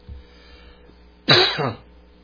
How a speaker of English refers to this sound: Excuse my coughing. After that propane exposure, I have problems with my lungs.